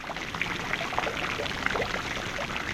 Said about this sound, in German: Das Wasser strömt von Becken zu Becken. Die Springbrunnen sprudeln im Märchenbrunnen.